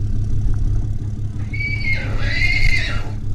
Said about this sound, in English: A horse trailer drives through the back gate of the very windy BLM Boise Wild Horse Corrals south of the city. Inside is Red Ryder, a 9-month-old weanling who was rescued after the soda fire.